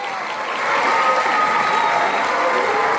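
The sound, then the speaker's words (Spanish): An audience bursts into steady applause for the president, a dense wash of many hands clapping that swells in the first second and stays loud and even throughout. “Un aplauso al presidente.”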